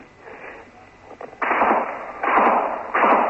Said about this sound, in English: Again, more gunfire. Flashes of red light. And every now and then, of course, tracer the red embers which flash across the sky, bouncing off rocks, and on several occasions missing. Missing us by feet.